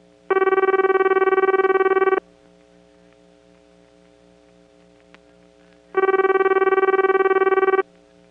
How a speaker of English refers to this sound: Meanwhile, some Bell companies, including New York Telephone, started adding crossbar PBXs made by the Nippon Electric Company, and they had a Japanese type ring.